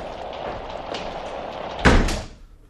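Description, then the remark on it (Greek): A door is shut with a single loud thud near the end, its boom briefly ringing out over a steady hum of background noise. “Κλείς την πόρτα, παλαβέ.”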